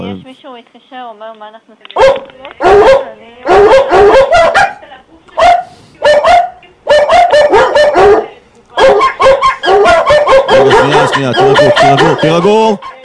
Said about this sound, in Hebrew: כן, איפה הכלבים שלי? תן לי קצת לשמוע אותם כלבים פה.